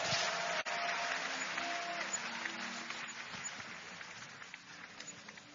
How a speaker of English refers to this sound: Give the Lord a big clap of hand. Lift up your hand.